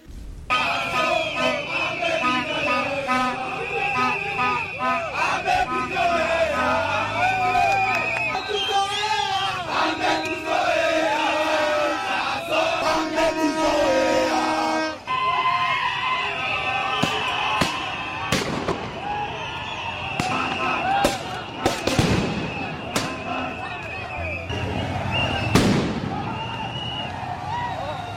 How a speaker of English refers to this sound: Those are the sounds of protesters running away from the crowd after the police started tear gassing and shooting them with rubber bullets.